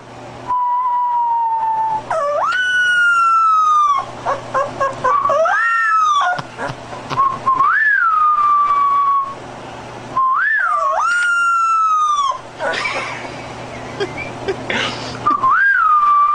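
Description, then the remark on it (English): A young puppy that does not yet know how to howl lets out thin, high whistling whines that swoop up and then hold long, wavering notes, repeated several times, with rougher breathy yelps between them, as its owner tries to get it to howl. Fairly loud, with no talking. “The puppy just, he doesn't know how to howl yet, so he makes this noise.”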